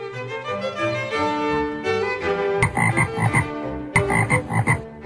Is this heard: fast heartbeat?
no